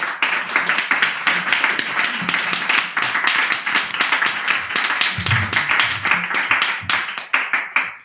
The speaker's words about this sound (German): Einen heftigen Applaus bitte.